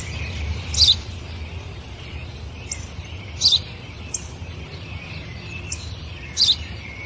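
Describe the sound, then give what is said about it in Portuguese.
A sparrow chirps in short bright bursts, with three louder calls spaced a few seconds apart and fainter chirps in between, over a low steady outdoor rumble. “É um pardal.”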